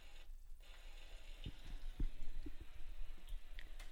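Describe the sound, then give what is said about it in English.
Soft, steady rain hisses in the background while a few heavier drops tap nearby at irregular moments. Fairly quiet and calm, with no voices. “And so for today, for forgiveness, I'm choosing a background that is rain, the sound of rain.”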